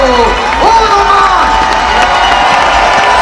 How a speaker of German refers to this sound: Euer Applaus